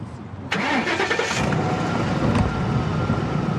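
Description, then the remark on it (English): A police cruiser's engine cranks and catches with a sudden burst, then settles into a steady, rumbling run as the cruiser pulls away, carrying on loudly to the end. No voices are heard. “The cruiser pulls away.”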